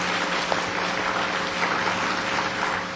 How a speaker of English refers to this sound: Give him, please, another round of applause.